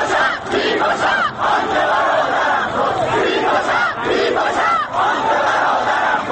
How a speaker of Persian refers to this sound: صدای گلوله که می آید جمعیت معترض راه می گیرد برای فرار. چند نفر نفری به سمت همراهان تیر خورده‌شان می‌روند. خون کف سیمان جاری می‌شود و مردم وحشت زده فریاد می‌کشند.